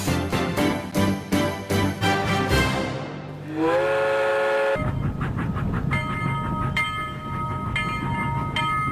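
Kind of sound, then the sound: vehicle, train passing with whistle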